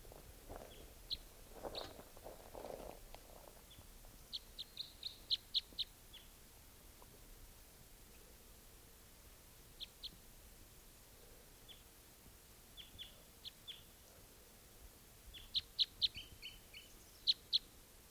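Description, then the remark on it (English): A wild bird gives short, high chirping calls in scattered bursts, some in quick clusters, over a low steady background hiss, with brief rustling or footsteps near the start, near decoys that have been set out for about half an hour. “And there's at least one wild bird here,”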